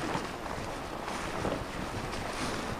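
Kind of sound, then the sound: nature, strong wind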